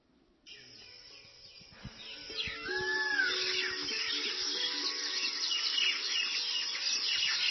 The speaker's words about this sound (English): So this is actually some, that's Vrindavan sounds. The peacocks in Vrindavan and the birds. So this is the peacocks.